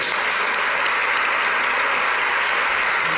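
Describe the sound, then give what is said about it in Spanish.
Steady, dense applause from a large audience, sustained and fairly loud with no pauses, blending into a continuous wash of sound, for Jesús Andrade after his pregón (proclamation speech) at the Monjas Concepcionistas in Lebrija. “Bueno, pues ahí está Jesús Andrade recibiendo el aplauso de todo el público que se dio cita ayer en las monjas concepcionistas de Lebrija.”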